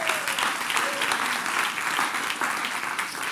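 A crowd applauds a band's drummer steadily throughout, dense overlapping claps forming a loud, continuous patter with no voices standing out.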